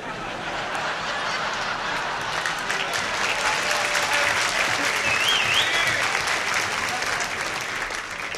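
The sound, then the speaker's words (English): A large audience bursts into sustained applause for Dean Martin, dense steady clapping for several seconds with a few scattered laughs mixed in. “I'm not too sure whether you applauded for Dean or we should stone some more embassies.”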